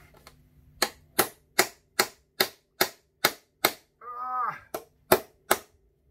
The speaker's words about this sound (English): Okay, it's time to break out the hammer. Here we go. Now this could go badly wrong.